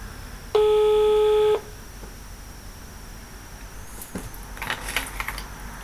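A single steady telephone line tone rings out for about a second, then fades into quiet hiss, followed by a scatter of soft clicks and taps like buttons being pressed to dial a call to the police.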